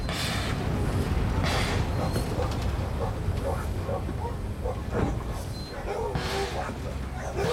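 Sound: dogs barking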